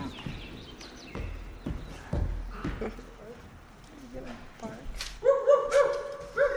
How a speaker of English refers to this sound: Oh my god, why are you barking?